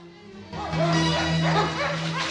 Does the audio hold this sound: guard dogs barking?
yes